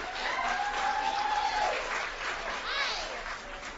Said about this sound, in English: Please, a huge round of applause